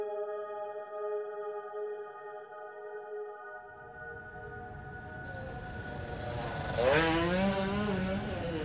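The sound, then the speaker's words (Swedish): A motorcycle ridden on a motorway in central Oslo hums with a steady, droning tone, then grows louder and rougher as road noise builds, briefly shifting pitch as it revs near the end. “En fotograf fångar honom på bild när han kör sin motorcykel på en bilväg mitt i Oslo.”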